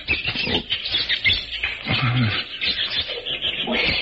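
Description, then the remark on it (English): A troop of monkeys screeching in the jungle, shrill overlapping squeals and chatter rising and falling without pause for several seconds, fairly loud, with no one talking. “Monkeys certainly steamed up about something.”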